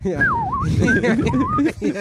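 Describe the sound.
A wolf whistle of swooping, sliding tones rings out a few times, fairly clear, over overlapping voices talking and laughing underneath.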